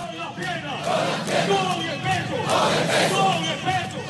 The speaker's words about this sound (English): Thursday morning, Maduro was greeted by troops singing and clapping as he joined them.